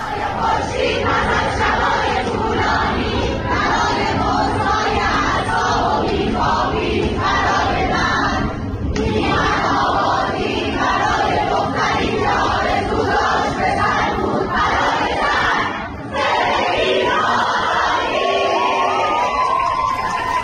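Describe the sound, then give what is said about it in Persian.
A crowd of young women at Sooreh University shouts slogans together in the middle of the university, in loud, rhythmic bursts, voices high and overlapping, with brief pauses between chants and cheering swelling throughout. “دقیقاً مثل همین دخترها تو دانشگاه سوره که دیروز برای هاشون رو وسط دانشگاه اینطوری فریاد میزدن.”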